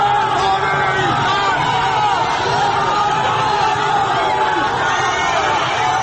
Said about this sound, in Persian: حالا خودش را در حلقه جمعیتی می‌بیند که هراسان هم شعار می‌دهند و هم راهی برای فرار باز می‌کنند.